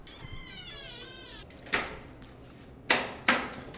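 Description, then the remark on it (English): The door of a room that was used as a storage room is opened: a sharp clunk, then two more loud knocks or bangs close together, after a high wavering, meow-like cry at the start. No one speaks. “I'll open this door here.”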